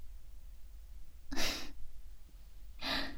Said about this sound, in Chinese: 很累吗？可我看你累得哼哧哼哧直喘气呢，怎么啦？真的很累吗？